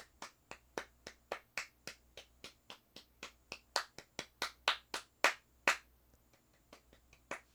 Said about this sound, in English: So we can put those rumors to bed, and let's just give it up for the snakeintists right now. How about, audience, let's just give an applause for the snakeintists out there.